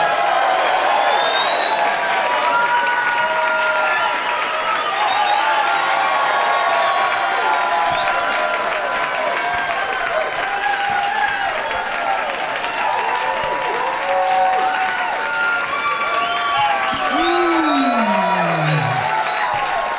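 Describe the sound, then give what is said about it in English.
An audience applauds steadily and loudly as Baron Vaughn, Matt Bronger and Rich Summer are welcomed out, with scattered whoops and cheers rising over the dense clapping and a few voices calling out. “But please give a big warm welcome to Baron Vaughn, Matt Bronger, and Rich Summer!”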